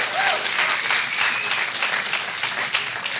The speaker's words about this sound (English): Come on, church, give God a hand clap.